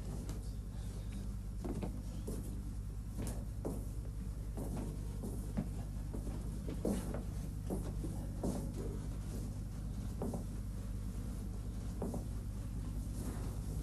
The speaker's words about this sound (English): Don't slam the door.